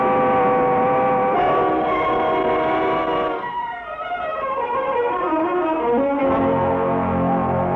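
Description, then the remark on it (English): A train grinds to a halt after its emergency cord is pulled, in the forest of Compiègne, its brakes letting out a loud, sustained metallic squeal whose pitch wavers and slides before settling into a steady rumbling tone. No one speaks. “You can't stop this train now. Oh, yes, I can. Watch me. All I have to do is pull this emergency cord.”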